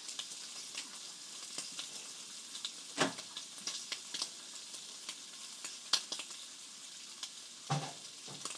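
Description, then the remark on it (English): Bacon sizzles steadily on a grill, a dense crackling hiss with frequent sharp pops and spits, including a few louder bursts, and no one speaking. “I hope you enjoyed the sounds of grilling bacon.”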